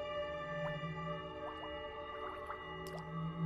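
Water bubbles in a drinking glass, a scattering of small rising blips and pops at an irregular pace, fairly soft, over a steady low hum with no talking.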